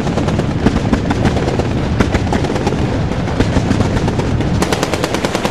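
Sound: explosions and gunfire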